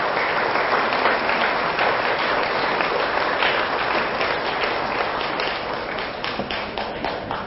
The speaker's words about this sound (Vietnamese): Những tràng vỗ tay thì giòn giả mà nụ cười thì chưa có nhiều.